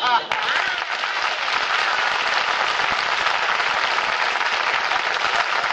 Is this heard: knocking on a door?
no